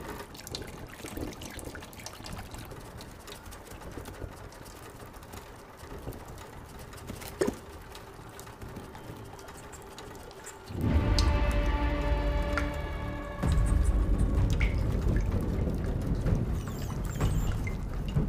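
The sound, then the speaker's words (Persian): Steady patter of falling water that abruptly swells about two-thirds through into a louder, denser downpour, continuing heavy to the end with no voices. “چیزی که اول چند قطره آب بود الان از کنترل خارج شده.”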